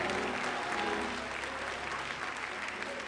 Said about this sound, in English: If you know God's going to do that, and you know he's going to do that this week, take those anointed hands, put them together, clap your hands and shout unto God with the voice of triumph.